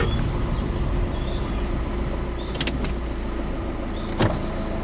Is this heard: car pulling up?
yes